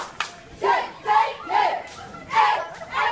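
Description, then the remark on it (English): A team of cheerleaders lined up at a door, forming a tunnel that arriving people walk through, shouts in rhythmic bursts, about five loud, high-pitched rallying cheers in a steady chant-like pattern with brief dips between them. “the cheerleaders, the team of cheerleaders lined up at the door, so that if you're walking through the door to get into the to this room, you have to walk through a tunnel of cheerleaders who are cheering.”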